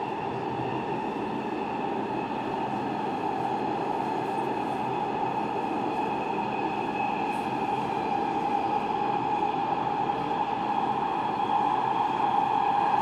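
A train rolls steadily along the track toward Dvořák-Vilenský station with a constant loud rumble and a sustained whine, heard from inside the carriage for the whole stretch, with no voices.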